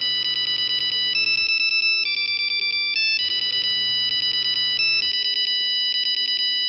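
A bright, electronic polyphonic ringtone from an old Nokia phone plays a fast dance tune of rapidly repeated staccato notes with shifting pitches. It is loud and steady, with no talking.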